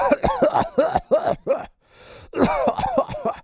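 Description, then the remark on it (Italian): A voice imitates a persistent cough: a rapid string of harsh, voiced hacks, a brief pause, then another loud fit of repeated coughing. “potevate sempre sentire, beh, posso anche fare il suo nome, la tosse del vecchio Bark Belknap”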